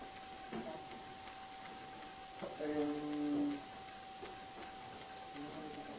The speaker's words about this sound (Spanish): en donde está la impresora, he impreso unas hojas. ¿Me las puedes traer, por favor? Que me olvidé sacarle fotocopia y le estoy imprimiendo la máquina ahí.